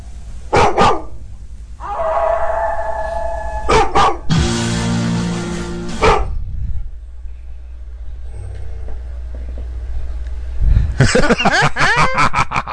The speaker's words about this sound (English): I don't know if you guys can hear the deep growls here.